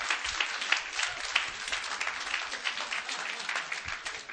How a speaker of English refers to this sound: Come on, clap your hands in it.